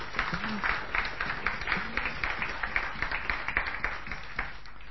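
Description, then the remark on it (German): An audience at a church service breaks into steady applause for the helpers who prepared the service, many hands clapping in a dense, even patter that holds at a moderate level for several seconds with no one speaking. “Vielleicht können wir einen kleinen Applaus für all die Helfer geben.”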